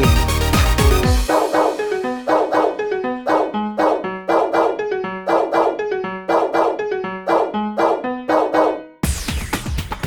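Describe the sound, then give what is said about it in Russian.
A chorus of dogs barks in a brisk, steady rhythm, with a dozen or more loud barks in quick succession. Short bursts of noise open and close the passage, and no one speaks. “А если бы у вас самих спросили, то вы б собачьим хором подтвердили.”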